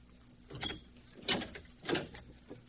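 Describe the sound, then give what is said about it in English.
An unlatched door being opened: three fairly soft mechanical clunks and rattles spaced about half a second apart, then a faint final click, with no voices. “Now look, shut up and open that door.”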